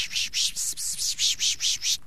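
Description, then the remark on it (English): A person pishing to attract birds: a quick, steady run of about nine breathy, hissing 'pish' bursts, fairly loud, with no talking. “You'll see sometimes I'll try to attract birds to me by making the sound called a pishing, which sounds like this.”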